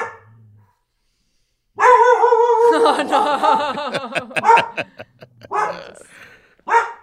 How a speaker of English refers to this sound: A dog barking.